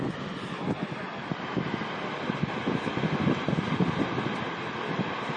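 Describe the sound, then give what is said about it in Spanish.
The Tifós waterfall in Iceland, the most powerful waterfall in Iceland and in Europe, roars in a dense, unbroken rush of water, loud and steady throughout with a deep rumble underneath and no voices. “Esta es la cascada más potente, no solo de Islandia, sino de Europa.”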